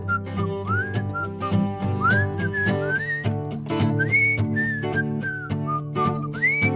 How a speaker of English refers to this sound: I can whistle a tune. Let's whistle one all together. Come on out there.